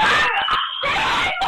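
person screaming

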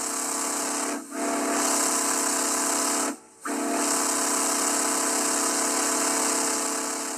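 steam locomotive whistle

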